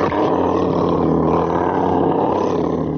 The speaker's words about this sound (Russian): Лев.